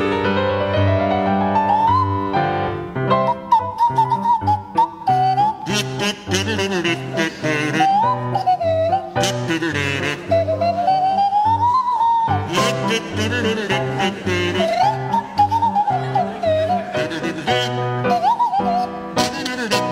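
A buzzing kazoo played by Barry Cryer and a sliding Swanee whistle played by Graham Garden perform Entry of the Gladiators, a jaunty circus march, loud and continuous, the whistle gliding up and down over the kazoo's raspy melody.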